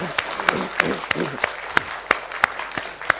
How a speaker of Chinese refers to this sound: 我真系好想叫大家一齐咧，我哋多谢呢一班弟兄姊妹，亦都多谢我哋嘅神咧，值得我哋俾一个鼓掌，好嘛？